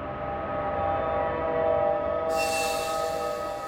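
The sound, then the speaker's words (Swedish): A loud, sustained metallic screech of subway train wheels grinding against rails as the train brakes to an emergency stop at a platform, a steady piercing squeal that turns harsher and hissier in its final second and a half. “De sista metrarna före tåget stannar skriker hjulen mot rälsen.”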